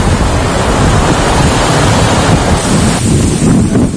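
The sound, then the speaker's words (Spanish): Roaring storm wind buffets the microphone while heavy surf crashes on the coast during Storm Herminia in Spain, a loud, continuous wash of wind and breaking waves with no voices. “Herminia se adentra en el interior peninsular y deja este lunes lluvia, viento y un total de 16 comunidades en alerta.”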